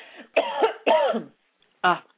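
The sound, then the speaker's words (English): A person coughs several times: two long, raspy bursts back to back, then a short pause and one more brief cough. “I am coughing up a storm again tonight.”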